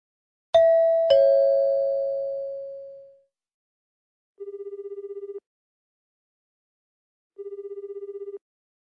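A two-note chime rings out and fades, followed by two evenly spaced bursts of a warbling electronic telephone ring as a call is placed to a T-shirt printing shop, Speed Print, with no one speaking.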